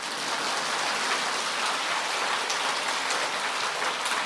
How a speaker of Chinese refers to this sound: 看见了吗？痛苦和幸福是不是在一起的？现在可以鼓掌了。